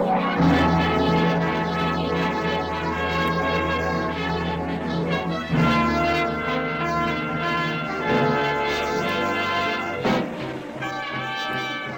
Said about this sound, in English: And here comes our star-studded show train.